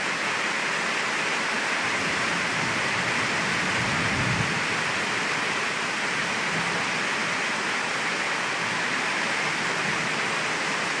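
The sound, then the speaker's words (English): A steady, dense roar of heavy rain pours down without pause during a very bad storm with serious flooding, with a faint low rumble of thunder swelling briefly partway through. No voices are heard. “We have serious floods here and we have another very bad storm. Can you hear that thunder? And the rain?”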